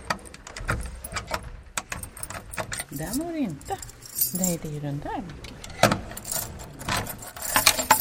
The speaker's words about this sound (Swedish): I och med att klockan har stannat så behöver jag låsa upp fodralet. Och då har jag ju väldigt många nycklar här på min nyckelknippa för nu måste jag komma underfund med vilken som hör just till den här klockan.